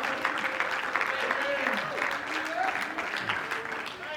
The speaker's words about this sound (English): Somebody clap your hands and just shout a little bit now. Oh, hallelujah. Come on, somebody clap your hands for the church.